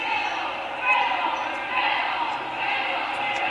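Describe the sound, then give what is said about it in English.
A basketball being dribbled out of bounds on a court during a game between Briarwood and the Aggies, its bounces faint and partly buried under a steady wash of crowd noise, with voices talking throughout. “Mears slapped it off of Patterson, and we dribble it out of bounds.”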